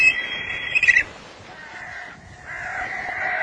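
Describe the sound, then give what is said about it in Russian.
A black kite's mating call: a high, quavering whinny like a distant horse neigh, a short sharp note and then a long trembling cry, heard clearly against faint background noise. “Тут я вспомнил, что брачный крик коршуна действительно напоминает отдаленное лошадиное ржание.”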